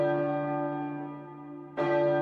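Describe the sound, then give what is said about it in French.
A large church bell rings out loudly in full swing with deep, resonant strokes; one long humming peal fades slightly before the next swing strikes, with no voices present. “Comme il achevait de parler, 11h03 sonnèrent, aussitôt la grosse cloche se fit entendre. Elle sonnait à pleine volée.”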